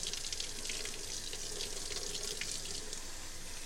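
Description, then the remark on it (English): Water gushes steadily from a tap, a continuous bright splashing hiss that stays loud for the whole stretch, with no talking over it, as someone gets water for a pit that has taken root. “Now I'm freaking out because I'm like, I gotta get this thing in water.”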